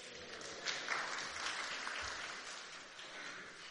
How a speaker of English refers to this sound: I'm not sure it deserved a round of applause.